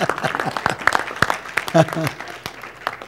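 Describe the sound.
A short burst of audience applause, scattered claps crackling unevenly, with voices murmuring and talking underneath before it thins out.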